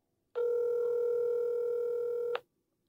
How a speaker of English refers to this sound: Oh, they'll call me back, hopefully. Both of them won't answer the phone.